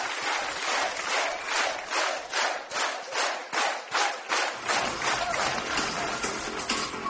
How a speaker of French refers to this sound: Continuez à applaudir très fort cette femme exceptionnelle.